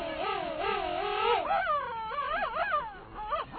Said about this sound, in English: A pair of king penguins stands face to face. They tilt their heads back, point their long bills skyward, and trumpet in unison. Second largest of all penguins, king penguins stand nearly 3 feet tall.